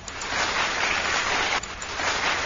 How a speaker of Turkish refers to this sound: Muhteşem dizeler ve şairimiz için kocaman alkışlar.